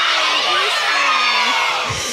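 A loud crowd yells a greeting together after a countdown from three, in one sustained, dense burst of shouting and cheering, many voices blending into a roar that fills the whole moment.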